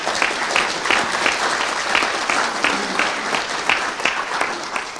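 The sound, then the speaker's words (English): A crowd applauds steadily for Denny Sanford, a dense wash of clapping hands at a fairly even loudness throughout, with no voices standing out above it. “Let's have a root round of applause for Denny Sanford.”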